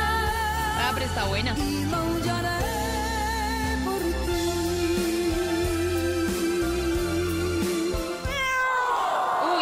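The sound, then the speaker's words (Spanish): A cat meows loudly in long, wavering, drawn-out cries that run almost the whole time over a steady low droning background, ending with a sharp shift near the end. “¡Maullón!”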